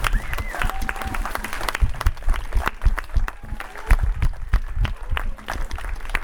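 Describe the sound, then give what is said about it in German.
Applause from an audience for two people: many hands clapping in a dense, irregular patter that holds steady throughout, with a few faint voices and whoops mixed in. “Und einen dicken Applaus nochmal für die beiden.”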